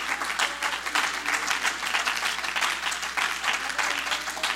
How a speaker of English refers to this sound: In fact, I wonder if we could give the Lord a hand clap of praise for that. For that hope.